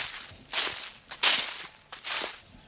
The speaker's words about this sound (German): Das Laub ist hier rascheltrocken, ihr hört das?